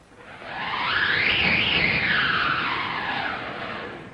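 A whistling wind effect from a wind machine in an orchestra's percussion section, in music depicting Sancho Panza's wild ride through the clouds on a wooden horse, swells in, its hissing, airy tone rising and falling in pitch in one long whoosh before easing off slightly, with no voices.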